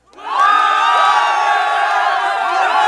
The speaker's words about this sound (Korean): 미처 대답할 틈도 없이 도시의 하늘에서 함성이 울렸다. 사람들이 외치는 함성은 처음엔 희미하게 들리다가 점점 커지더니 거리를 가득 메웠다.